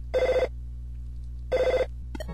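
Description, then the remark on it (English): A telephone rings twice, each short trilling burst separated by about a second of quiet, clear over a steady low background hum. “It's the phone, you idiot. Pick it up. My dad gets mad if I don't get it by the third ring.”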